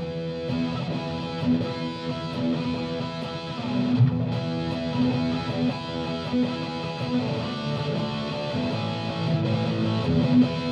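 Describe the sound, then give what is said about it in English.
A distorted electric guitar plays heavier rock through an amplifier, thick and buzzing with sustained, gritty chords that ring steadily for about ten seconds at a moderate, even level with no voices. “You started getting these new amplifiers that were coming out that allowed you to get this distortion sound.”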